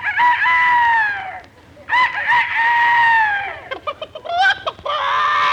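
rooster crowing

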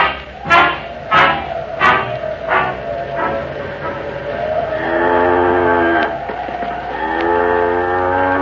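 cow mooing

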